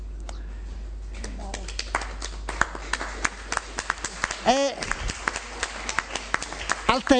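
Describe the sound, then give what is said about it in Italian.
An audience breaks into scattered, uneven applause, sharp individual claps popping irregularly over a low background hum, while a voice speaks over it partway through. “al tempo non applaudiamo troppo”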